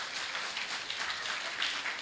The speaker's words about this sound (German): Und das Volk muss eigentlich klatschen, wenn der Mann durchkommt.